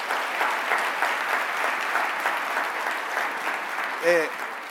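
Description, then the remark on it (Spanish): An audience applauds the mothers steadily, a dense wash of many hands clapping at moderate volume. Near the end a brief voice or cheer rises above the clapping. “So, denle un aplauso una vez más a las madres.”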